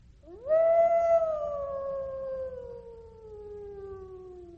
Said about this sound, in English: Far away in the forest, they heard the long, eerie wolf howl.